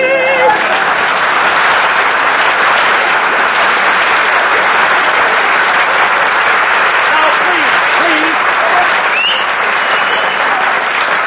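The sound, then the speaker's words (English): Loud, sustained applause from an audience after a sung performance fills the whole stretch, a dense steady clatter of many hands clapping with faint vocal tones rising through it. “Applause, please.”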